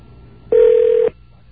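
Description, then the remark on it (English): A telephone line connecting as an OmniPoint voice dialing system calls radio station WBAI, 99.5 FM: one steady, mid-pitched electronic tone sounds loudly for about half a second, then cuts off, leaving only faint line hiss before and after. “So that's how you play with OmniPoint voice dialing, which I just started playing with recently.”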